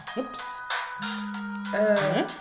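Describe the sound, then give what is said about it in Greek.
A new mobile phone rings with a steady electronic tone lasting about a second, mixed in with voices talking over it. “δεν ξέρω ποιος είναι. Είναι καινούργιο το κινητό.”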